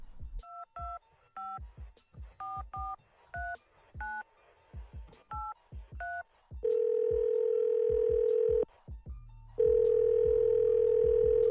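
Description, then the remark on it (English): A rapid series of telephone keypad tones beeps as a number is dialed to call a caller's ex, followed by two long, loud ringing tones on the line separated by a brief gap. No one speaks. “All right, well, let's call him.”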